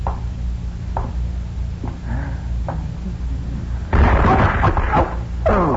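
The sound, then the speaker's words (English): A few soft knocks over a low rumble, then a sudden heavy crash of a flower pot falling from the top of a pedestal onto a stage and breaking apart, with scattered clattering debris and a second smaller crunch at the end. “That flower pot was on top of that pedestal.”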